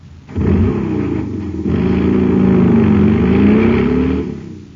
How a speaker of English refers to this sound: Man, that cycle's roaring like a rocket now because it's supercharged with super fuel.